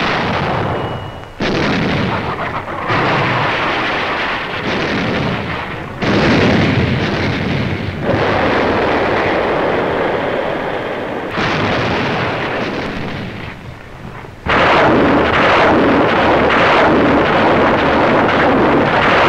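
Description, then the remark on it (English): Heavy naval artillery barrage sweeping enemy beaches in Normandy, with repeated booming gunfire and explosions, dense and loud, sharp blasts breaking out every few seconds over a continuous roar and rumble. “Our naval barrage swept the enemy beaches with brooms of fire.”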